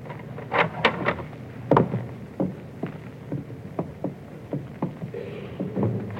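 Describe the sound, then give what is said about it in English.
A door in a castle is eased open quietly, with a string of soft wooden knocks, clicks and creaks spread over several seconds, fairly quiet and with no voices. “Quietly now. Open the door.”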